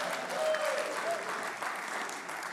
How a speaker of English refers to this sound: Give Sean a hand. He's doing a good job back there.